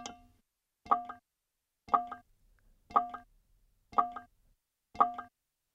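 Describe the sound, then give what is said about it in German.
Metatron, the galactic central computer, ticks steadily, six crisp, slightly resonant ticks spaced about one second apart, clear with silence between them and no voices. “Metatron tickt nicht mehr. Nichts tickt.”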